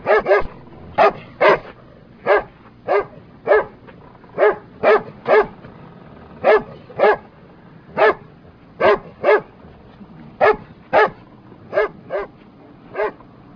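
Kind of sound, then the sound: animal, large dog barking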